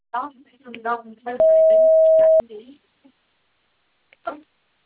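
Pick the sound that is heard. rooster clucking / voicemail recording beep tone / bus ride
voicemail recording beep tone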